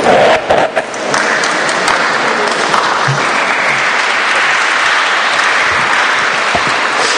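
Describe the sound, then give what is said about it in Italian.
Sustained audience applause at a parish Christmas gathering, dedicated to the priests present, a dense steady wash of many hands clapping for about seven seconds, loud and even throughout with no voices standing out. “Io questo applauso lo indirizzerei a tutti, ai preti presenti, parroci, gli altri sacerdoti”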